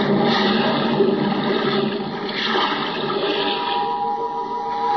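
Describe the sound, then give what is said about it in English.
A loud, churning rush of water surges for several seconds as a diver goes overboard with equipment in hand and plunges into the sea, bubbling beneath the surface, with no voices. “Now, hoist you up and overboard and dive with your equipment well in hand into the sea and under it.”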